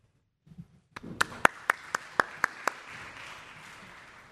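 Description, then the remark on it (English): A crowd bursts into applause after a short quiet moment, a steady wash of clapping with several loud, evenly spaced claps standing out at the start. “She deserves all the round of applause for that.”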